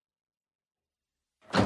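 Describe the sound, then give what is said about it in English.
Silence, then a back door abruptly opens or shuts as someone comes out of it, with a loud, full-bodied rush of sound near the end. No one speaks. “But I really like the emotional arc of Kate in this episode, going through the front door, coming out the back door.”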